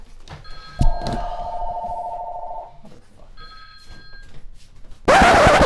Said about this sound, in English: And this is live, so the phone's ringing.